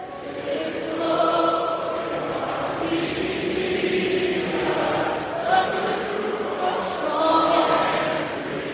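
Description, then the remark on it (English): A large crowd at the arena in Buffalo sings O Canada together before a Sabres game against Boston, after the singer's microphone malfunctioned, many voices blending into loud, sustained notes with a rough, swelling texture and steady volume throughout. “But the crowd at the arena in Buffalo stepped up in a big way. They belted out the anthem themselves.”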